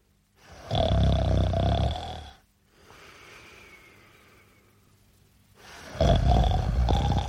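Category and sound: human body sound, snoring sound effect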